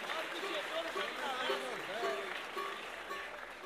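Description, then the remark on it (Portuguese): A crowd applauds steadily for several seconds, a dense wash of clapping with voices calling and talking over it. “receba uma salva de palmas.”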